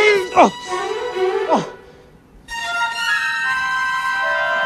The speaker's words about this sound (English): Wayne starts screaming as he is kidnapped.